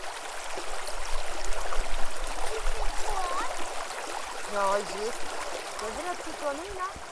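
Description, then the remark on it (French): A river stream in the Cévennes, France, trickles and babbles steadily, a continuous watery wash, while faint voices drift in over the flow during the second half. “Chercher l'ombre, trouver l'eau, une journée dans les Cévennes et ses rivières, le lendemain sur le sable de l'Espiguette.”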